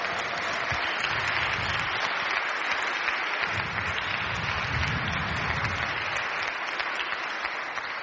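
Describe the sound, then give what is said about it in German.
Sustained applause from an audience for a dance group, a dense, steady wash of many hands clapping at an even loudness for several seconds, with no voices standing out. “Ganz herzlichen Applaus.”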